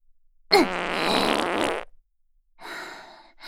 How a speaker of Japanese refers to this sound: いい音。ほら、鼻鳴らして匂い嗅いでみなよ。どう？私のおならの匂い。くっさいでしょ？鼻もげちゃいそうっしょ。